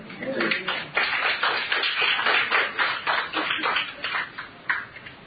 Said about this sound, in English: Thank you very much. Y'all might not be clapping when it's over. No, I'm teasing.